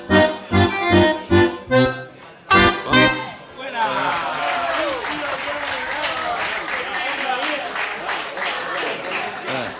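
A few loud, rhythmic sung or musical phrases end, and an audience bursts into steady applause, a dense wash of clapping that holds evenly to the end.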